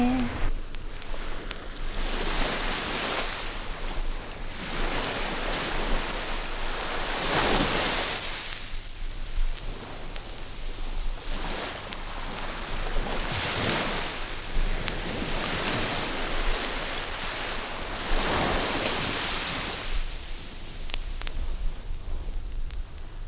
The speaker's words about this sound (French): Respiration de la vague. Installez le silence en vous, puis laissez-vous peu à peu envahir par le bruit de la mer. Devenez une plage qui se laisse caresser par la vague écumante.